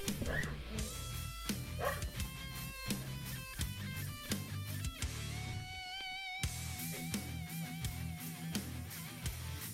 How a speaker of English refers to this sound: So, 1 second, let me go get my dog to stop screaming his head off, and we'll get into the news.